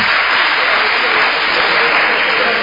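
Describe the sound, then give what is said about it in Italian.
An audience applauds steadily, a dense, loud wash of many hands clapping at once that holds at an even level for the whole stretch, with no pauses or distinct individual claps. “Non, evitiamo gli applausi, evitiamo di creare insomma interruzioni perché poi non è previsto dal regolamento.”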